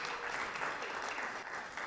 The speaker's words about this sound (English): The winners of the DBC Open Scramble. So, yeah, you guys can clap for them if you want to.